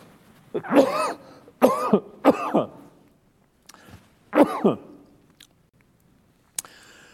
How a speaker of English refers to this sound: And there I will pause because I just got over a cold and I am going to cough. So, excuse me.